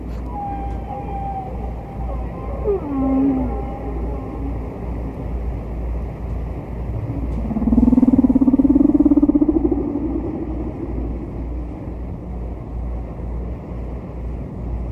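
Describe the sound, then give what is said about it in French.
Distant whale song played from a record (track 4, side A) over a steady low rumble of underwater noise: a thin high whistle sliding down into a low moan, then a louder, swelling groan that rises and fades, echoing faintly. “on va écouter un autre chant du disque de Payne et McVeigh, la plage 4, la baleine distante de la face A”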